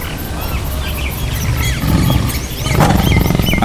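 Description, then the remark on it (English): A dense safari soundscape of wild animals: constant bird chirps and tweets over a deep, rumbling big-cat growl that swells louder in the second half, with a harsher roaring burst near the end. “Safari over. Grab that mic and recorder.”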